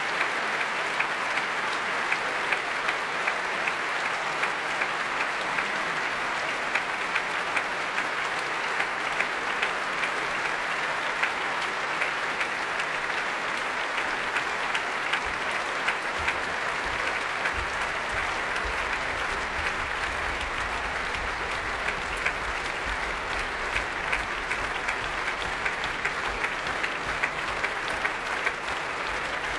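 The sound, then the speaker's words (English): A large audience claps steadily for the full length, calling a pianist back on stage, a dense, continuous roar of hands, with heavy stomping joining in partway through and adding a low rumbling thud beneath the applause; orchestra members tap their bows and applaud. “Well, the audience here are clapping and stomping.”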